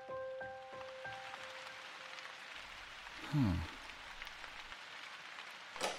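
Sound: falling rain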